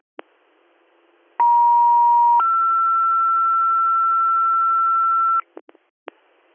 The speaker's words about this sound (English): You all set on tones, or are you going to need additional tones? Additional tones for a driver, please.